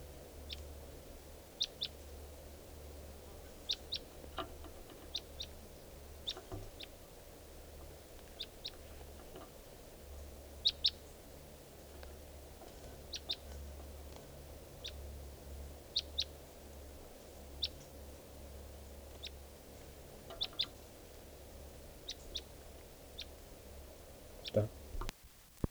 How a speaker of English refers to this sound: We're recording at 3:10 p.m. and there's a wild bird here. And I think it could be the male who I missed before, the mate of this female. Wild bird.